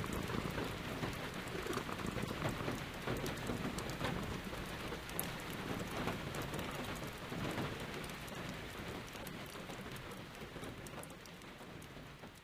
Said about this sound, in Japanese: それでも雨の音色が聞こえるとアメネコは窓辺に寄り添って雨の音色に耳を傾けながら心を落ち着けるのでした。